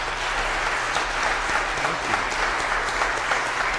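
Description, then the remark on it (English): A crowd at a worship service applauds steadily, a dense rush of many hands clapping at an even, loud level for several seconds with no voices standing out. “So let's give Andrew a hand.”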